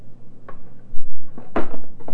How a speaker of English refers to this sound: Can you stack them up? Did they show you how to build a house with the blocks? Build a house. Build a house. See? Stack them up. One block up and another one on top of the other.